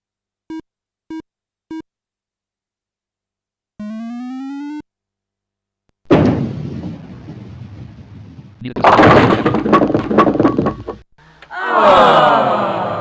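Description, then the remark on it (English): Three quick electronic beeps and a rising tone, then a bowling ball with too much hook rumbles down the lane on the first ball of the tenth frame and smashes loudly into the pins, knocking down nine and leaving the 6 pin standing, followed by another short burst of clattering noise. “The ball had too much hook. Your ball hit 2 lanes to the left of the mark. 9 pins were knocked down with your first ball.”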